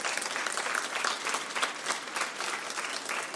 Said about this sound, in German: Da kommen wir noch dazu. Das ist erstmal Ihr Applaus.